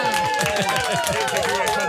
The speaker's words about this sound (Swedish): Men, och nu är julkanalen igång. En liten applåd för det, tycker jag.